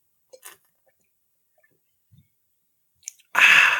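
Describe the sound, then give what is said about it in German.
Soft clicks and taps come first, then a quiet pause. A sharp crack follows, and a loud, steady fizzing hiss fills the end as a Spezi soda is opened and poured. “Ich muss erstmal hier so eine kleine Spezi mir so schnabulieren.”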